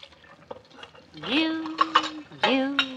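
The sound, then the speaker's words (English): Dishes being washed clink and clatter in a few sharp, scattered knocks while someone hums a sustained tune over the washing-up noise. “Now, if I can get these dishes finished early, I might be able to get some sewing done for a change.”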